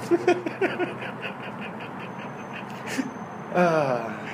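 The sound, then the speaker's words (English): A duck walking by quacks in a few short, nasal bursts near the start, then lets out one louder, drawn-out quack toward the end, without any talking. “So a duck walks by. You got any quakes?”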